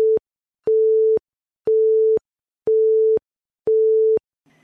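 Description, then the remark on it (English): A steady electronic beep tone repeats five times at an even pace, each pulse about half a second long with equal gaps, mid-pitched and loud, like a telephone busy signal. “Beep.”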